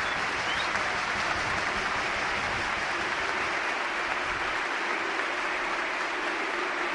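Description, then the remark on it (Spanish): Sustained, dense applause from over 30,000 spectators standing at Mestalla stadium in Valencia to greet David Silva as he comes on as a substitute, a loud continuous wash of clapping and cheering that fills the whole seven seconds without pause. “Más de 30.000 espectadores hoy puestos en pie aquí en Mestalla para recibir, en la que sigue siendo su casa 12 años después, campeón del mundo, 2 veces campeón de Europa, campeón de la Copa del Rey con el Valencia”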